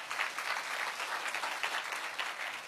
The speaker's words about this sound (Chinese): 愿意的拍手把荣耀归给主，好不好？